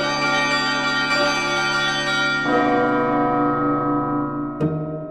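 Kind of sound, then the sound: signal or alarm, church bells ringing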